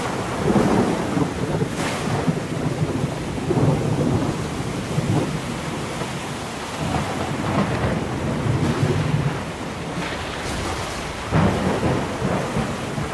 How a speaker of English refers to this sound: As is common in this area, a freak storm blew up out of nowhere, and it was life-threatening.